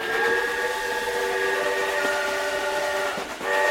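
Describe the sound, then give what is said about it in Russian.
A train pulls away from a station platform, its long, steady horn sounding over a constant rumble of rolling cars as it speeds up. The loud, continuous blast briefly dips and falters just before the end. “Но поезд тронулся, и каштанка пошла рядом с вагоном.”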